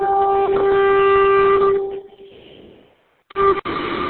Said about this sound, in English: And the foghorn is loud. This is our evidence.